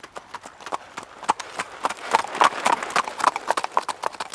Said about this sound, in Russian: А у лошадки на ногах копытца. Цок, цок.